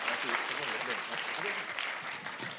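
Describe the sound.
A crowd claps steadily in a dense, continuous wash of applause, with a few voices murmuring faintly underneath throughout.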